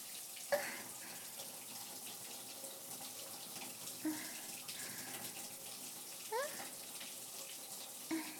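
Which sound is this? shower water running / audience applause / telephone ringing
shower water running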